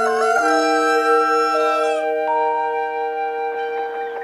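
A rooster crows loudly, one long drawn-out cock-a-doodle-doo that holds its strained, brassy pitch for several seconds before trailing off. No one speaks.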